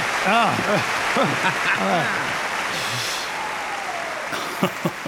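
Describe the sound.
An audience applauds steadily throughout, a dense crackle of clapping hands, while voices rise and fall over it in brief sung or cheering phrases.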